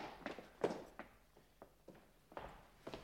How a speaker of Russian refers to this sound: Что за шум? Все тихо, мой лейтенант. Я слышал топот. Может быть, мыши? Они водятся в подполье.